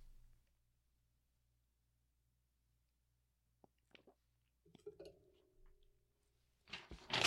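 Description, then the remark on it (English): A woman ripping paper: after a few faint scattered clicks and crinkles in near silence, a short, loud, harsh tearing burst erupts at the very end. “She's ripping paper again.”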